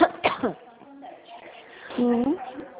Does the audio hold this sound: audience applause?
no